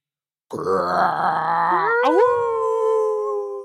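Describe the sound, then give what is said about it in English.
A big guard dog, a three-headed Cerberus with all three heads mad, snarls with a deep, rough growl, then rises into a loud, sustained howl that holds for a couple of seconds, with no one talking. “Wait, the Idea Factory has a guard dog.”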